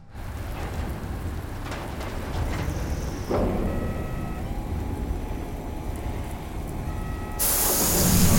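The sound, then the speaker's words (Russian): A steady rain-like hiss fills the cabin of a nearly empty passenger airplane during a storm, then a loud rush of de-icing fluid being sprayed onto the airplane during its de-icing treatment surges in near the end and keeps building. “Не надо беспокоиться, сейчас проходит противообледенительная обработка.”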